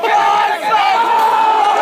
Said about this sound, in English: Big cheers as you can hear from the crowd.